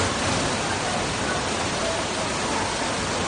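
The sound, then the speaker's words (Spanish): Floodwater pours into a New York City subway station on the east coast of the United States with a loud, steady roar of rushing water, a dense, unbroken hiss that stays constant throughout, with no voices. “son impresionantes las imágenes que nos llegan desde la costa este de Estados Unidos con esta fuerza de entrada del agua en el metro de Nueva York.”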